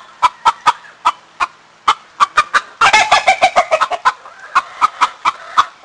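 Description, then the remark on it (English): Chickens cluck in a quick, repeated series of short calls, fairly loud, with a denser burst of overlapping clucking in the middle before the steady pecking rhythm resumes. “La Mesa residents may soon be able to raise chickens, though not roosters, in their backyards.”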